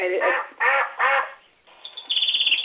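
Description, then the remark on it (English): A duck quacks loudly, three harsh, nasal quacks in a row, followed after a short pause by a quick, rattling series of softer chattering calls. “See, the bird didn't fit in there.”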